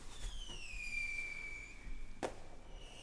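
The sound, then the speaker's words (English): Calming fireworks sounds for pets, found online: a low thump, then a long whistling rocket gliding downward in pitch, followed by a sharp crackling burst. The whole display is fairly quiet, with no talking. “But you can also find pet sounds online in the form of fireworks, but actually just calming. Here they go.”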